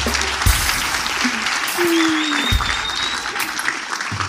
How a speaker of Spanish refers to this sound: Oye, un aplauso para él, oye, tanta huevada.